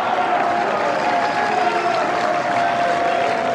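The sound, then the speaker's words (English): A large crowd cheers and applauds at a tennis match, a dense, steady roar of clapping and voices that stays loud and even for the whole few seconds, with no distinct speech. “we need to find out where this cheering is coming from, because that is where we need to base ourselves.”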